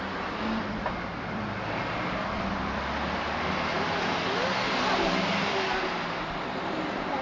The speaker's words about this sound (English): No, you must hold my hand, darling. It's too dangerous. Too many cars. Right? Too many cars.